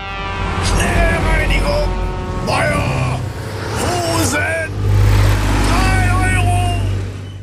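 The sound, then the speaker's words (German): Trucks rumble past with a steady low engine roar, while several truck drivers shout loudly over the traffic noise in short overlapping bursts. “Also heuern Sie ein paar weitere LKW-Fahrer an, die dann nach einer Woche üben, dem Timo hintereinander entgegenfahren und im richtigen Moment ihren Part rufen.”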